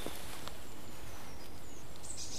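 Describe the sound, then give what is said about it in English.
Thin, high calls of a great tit, ending in a couple of brighter, sharper notes, in quiet outdoor surroundings. “I think that's a great tit.”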